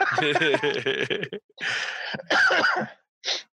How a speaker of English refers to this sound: Making me laugh so hard I keep coughing now.